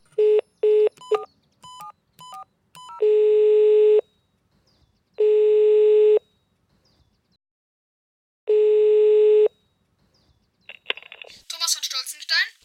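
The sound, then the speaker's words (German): A telephone handset is picked up in a hangar and a quick burst of keypad tones is dialed, followed by three long, evenly spaced ringback tones, then a voice begins speaking over the line near the end. “Pitt greift derweil nach dem Telefonhörer.”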